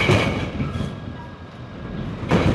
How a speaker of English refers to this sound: The modern electric cranes are pretty quiet at the port of Jacksonville, except when they slap the containers on the trucks.